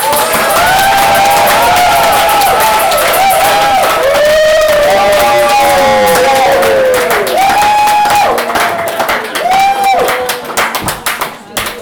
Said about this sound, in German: Hier alle bitte die Anerkennung vom Loch applaudieren. Applaus bitte, jeder für jeden.